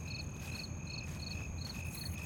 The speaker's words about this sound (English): are the mics picking up the crickets?